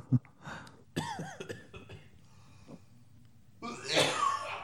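Harsh coughing right up against the microphone: a sharp burst, a couple of rasping hacks with throaty breaths between, then a louder, drawn-out fit to finish.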